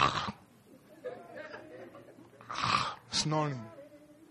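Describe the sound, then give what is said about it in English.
A voice imitates snoring with a couple of rough, breathy snorts, the second breaking into a drawn-out voiced rumble, after some quieter murmuring. “While you and myself, we are there on our beds, sleeping and snoring.”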